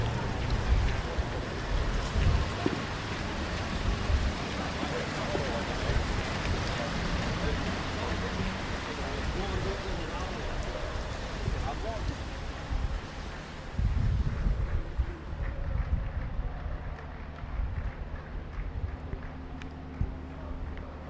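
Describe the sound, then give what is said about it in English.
Steady rain patters across the open, still-empty Camp Nou stadium about an hour and three quarters before a game, a broad continuous hiss with gusts of wind buffeting the microphone, easing slightly toward the end. “So, Camp Nou, it's all raining.”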